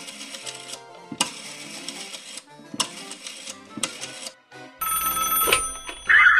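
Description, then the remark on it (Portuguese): A telephone rings in four bright, rattling bursts separated by short pauses as a call is placed to a cell phone, followed by a louder, harsher stretch of noise near the end. No one speaks. “Deixa eu ligar pro celular.”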